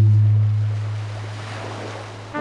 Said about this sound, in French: Le temps est terrible. Le bateau tangue fort. Les vagues nous explosent au visage dans un vent violent.